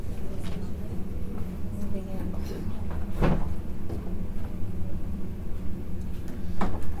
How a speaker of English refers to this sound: Well, they're just moving out, so I'll just go and shut the door.